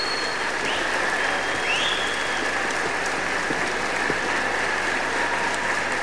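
Sustained applause from an assembly audience in Gualeguaychú for a speaker: a dense, steady wash of many hands clapping at a fairly loud, even level for several seconds, with a faint whistle rising briefly above the crowd.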